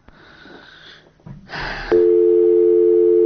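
A telephone line noise crackles and hisses, then a loud, steady electronic tone sounds on a failed call and holds unbroken to the end, with no one talking.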